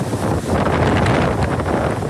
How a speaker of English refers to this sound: Winds lashing the Jamaican capital, Kingston.